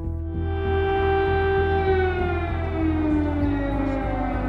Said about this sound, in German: Sirenen in Kiew. Der Krieg hat begonnen. Russland hat eine Großoffensive gegen die Ukraine gestartet.